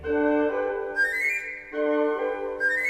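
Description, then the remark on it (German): A bird-catcher's pipe trills a quick rising run of bright, whistle-like notes, then repeats it, clear over sustained instrumental tones. “Weiß mit dem Locken umzugehen und mich aufs Pfeifen zu verstehen.”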